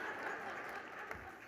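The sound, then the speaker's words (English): People applaud the news that the speaker's family will add a new baby in August, steady dense clapping at a moderate level, with a faint murmur of voices mixed in. “I'll tell my husband you clapped.”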